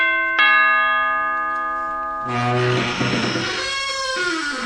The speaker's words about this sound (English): Ring the laird's doorbell.